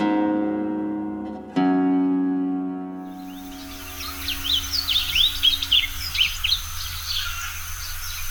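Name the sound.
blue grosbeak song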